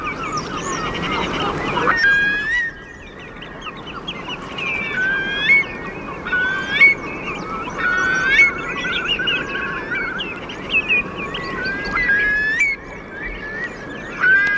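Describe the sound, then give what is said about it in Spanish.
A dense chorus of shorebird whistles, redshanks and sandpipers in the mud, rings out in clean, high, repeated piping calls that overlap continuously over a steady low roar of the sea. “Lo interesante de estos silbidos es que están diseñados acústicamente para que se escuchen por encima del bramido del mar.”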